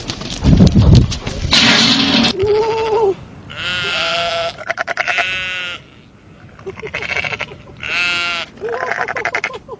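Several sheep bleat one after another, loud, each call a wavering, harmonic baa, with a rustling, thumping noise at the start.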